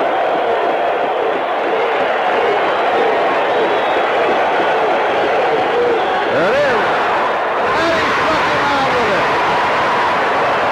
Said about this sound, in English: The thing I noticed, and I'm guessing you noticed during that clip, is that the crowd at Yankee Stadium is extremely loud. They're going bananas. Mm-hmm. You really get the sense of being in the stands